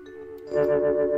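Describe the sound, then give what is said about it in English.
An announcement chime: a sustained, ringing electronic tone that steps up into a louder, fuller second note about halfway through, held steady with bright harmonics and no talking. “Announcement, sound effects.”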